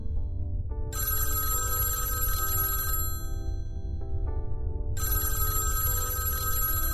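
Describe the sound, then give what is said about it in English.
A telephone bell rings in two long bursts separated by a short pause, bright and clattering over a steady low rumble, fairly loud, with no one talking. “Is there a phone in here? Oh, yes, there is, actually.”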